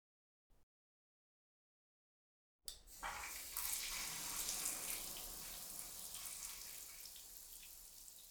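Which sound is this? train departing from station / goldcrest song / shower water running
shower water running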